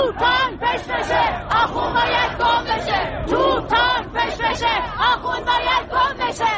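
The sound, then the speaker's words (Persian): A large protest crowd in Tehran, Iran, gathered around Azadi Square and Enqelab Street, chants anti-government slogans in unison despite military forces firing pellets and tear gas. Many raised voices rise and fall in a steady, rhythmic cadence of loud shouted phrases, with no pause in the noise throughout. “در تهران تجمع‌ها در اطراف میدان آزادی و خیابان انقلاب برپا شد و معترضان به رغم حضور نیروهای نظامی و شلیک گلوله‌های ساچمه‌ای و گاز اشکاور شعارهای علیه حکومت سر دادند.”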